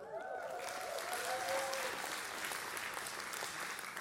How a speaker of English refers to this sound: Last chance you have to clap, I promise. All right? I should have said last chance you get to clap.